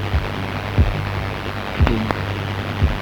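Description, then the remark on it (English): A slow, muffled heartbeat within a music track thumps low and deep about once a second over a steady low hum and faint static, with no voices. “Can you hear my heart beating on that?”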